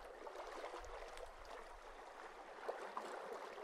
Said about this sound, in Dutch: Je voelt je één met de omgeving die fluisterstil is. Je hoort alleen het water.